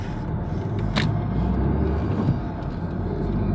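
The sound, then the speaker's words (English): A steady low rumble of a car engine and road noise from a car packed with food and drinks, driving on the way to a holiday, continuous throughout, with a brief brighter whoosh near the start and no clear talking. “No one is coming, so let's drive.”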